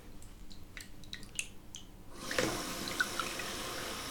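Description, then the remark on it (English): Warm water splashes lightly in a bath, then a steady pour rushes in, a broad continuous wash of sound with a few small drips and plinks on top. “Let me just make sure the water is nice and warm.”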